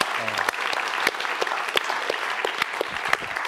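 An audience at a Library Foundation evening talk claps steadily for the Library Foundation, a dense patter of many hands with sharper individual claps popping out, sustained and fairly loud throughout with no one speaking.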